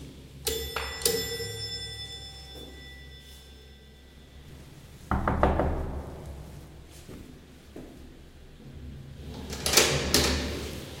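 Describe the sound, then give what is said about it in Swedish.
An apartment door is unlatched and opened after a short doorbell chime at the start, then a few clunks and a rattle of the handle and lock, with quiet pauses between. “Sen öppnas dörren.”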